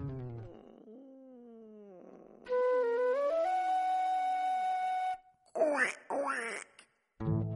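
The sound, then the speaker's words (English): A voice imitates a duck, making a drawn-out nasal tone followed by two short, sharp quacks, fairly loud. “No, George. Ducks go quack, quack.”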